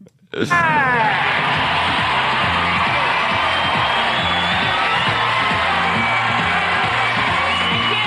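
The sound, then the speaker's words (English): The studio audience of the British television show Blind Date erupts into loud, sustained roaring and cheering as host Celia Black comes out, starting abruptly and holding steady, with whoops and shouts mixed into the dense wall of crowd noise, and a rhythmic beat underneath. “I mean, she comes out to just a roaring crowd.”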